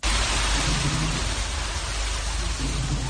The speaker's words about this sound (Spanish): Es el agua al discurrir en tromba por las calles de la ciudad autónoma. Las tormentas y las fuertes lluvias en estas zonas han provocado ya cortes de carreteras, viviendas anegadas y múltiples desperfectos en coches y en los elementos urbanos.